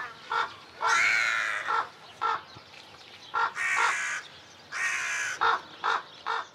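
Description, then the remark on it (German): Crows caw repeatedly, a run of harsh, raspy calls, some short and clipped, others drawn out, sounding loud with no talking. “Man könnte formelhaft auch sagen, die Kulturgeschichte der Menschen vollzieht sich unter der Beobachtung der Krähen.”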